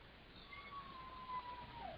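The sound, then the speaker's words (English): A female pet dog in the background lets out one thin, high, drawn-out whine that wavers slightly in pitch, faint and alone over a low steady hiss, with no talking. “You hear my dog back there.”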